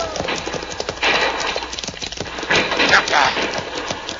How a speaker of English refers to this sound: See, Pancho stampede the horses.